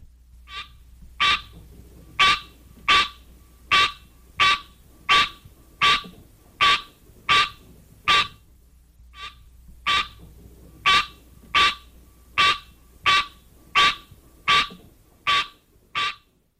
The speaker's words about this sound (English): One parent, the green tree frog, Hylocenaria, has this call.